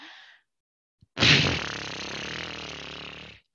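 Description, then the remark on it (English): A person imitates a horse blowing out air the way horses do when letting adrenaline out: one long, loud, fluttering lip-blow lasting about two seconds, preceded by a brief soft breathy exhale. “So one of the things that I learned from my horses is when they're letting that adrenaline out, they go like this.”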